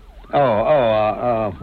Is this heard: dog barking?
no